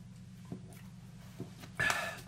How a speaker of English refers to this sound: Excuse me for a second. I'm going to take a drink of my water here real quick.